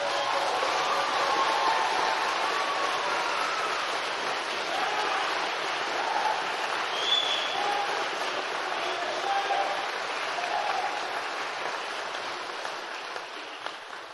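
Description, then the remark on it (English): Sustained crowd applause at a graduation ceremony, a dense steady patter of many hands clapping at an even level for over ten seconds before tapering slightly toward the end, with no speech over it. “I sense you want to applaud. Please, go ahead.”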